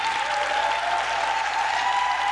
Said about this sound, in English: Would you be so kind just to give Pastor Woodrow and Pastor Francine a round of applause?